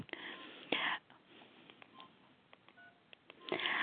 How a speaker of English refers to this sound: And I'm just going to set my timer here.